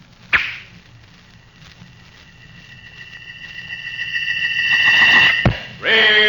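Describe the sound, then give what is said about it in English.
An arrow is loosed from a strong bow with a rawhide string with a sharp snap, then whistles steadily through the air, growing louder for several seconds before striking with a hard thwack and a brief rattling burst, in the radio adventure Great Arrow. “A gleaming arrow set against a rawhide string. A strong bow bent almost to the breaking point.”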